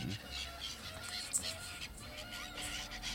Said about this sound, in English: Mm-hmm. These birds are probably not doing good for the recording. That'll be fine.